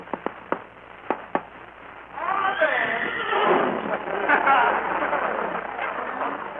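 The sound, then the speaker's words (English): A handful of sharp, spaced hoof clops lead into a long, loud, wavering horse whinny as Mark Anthony approaches on his horse, all with a thin, old-recording quality. “It's Mark Anthony approaching on his horse.”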